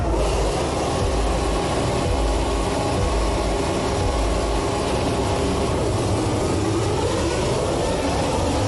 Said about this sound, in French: Exemple, avec un son emblématique, c'est le départ de chaque Grand Prix. Les voitures arrivent sur les grilles de départ.